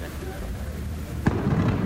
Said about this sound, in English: we saw it all explode and everything. And I got an audio clip for you